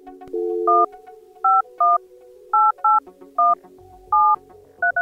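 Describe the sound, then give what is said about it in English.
A telephone number is dialed on a touch-tone keypad to call Keith's personal cell phone: a brief tone at the start, then about eight crisp, evenly loud dual-tone beeps in an uneven rhythm, clear, with no talking. “My producer Anita tried to contact Keith.”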